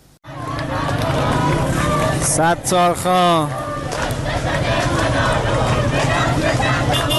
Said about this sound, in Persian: اینجا تهران است. صدای حامیان سیستان و بلوچستان را می شنوید.